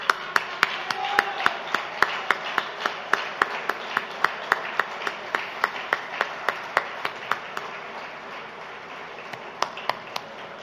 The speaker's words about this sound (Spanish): Así que muchas gracias, compañeros, y yo hoy les quiero dar un aplauso a todos ustedes.